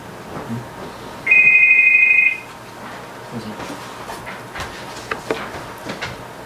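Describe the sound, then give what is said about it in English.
A phone rings once in a short, steady electronic burst lasting about a second, fairly loud, then stops, leaving quiet with faint scattered noises and no talking. “Would you like to keep the phone close to you so you can shut it off when it's need?”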